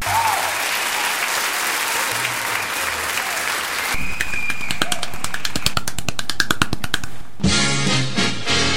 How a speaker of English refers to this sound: But how about coming up with 100 shows? Now that is a feat that deserves an applause.